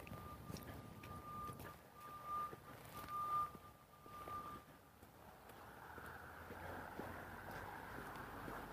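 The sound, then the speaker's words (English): A repeating reversing alarm from a crane working on a building site beeps steadily for several seconds, then stops, leaving outdoor wind and low machinery rumble in the background. “There's a crane working on the building site over here. That's what that beeping sound is.”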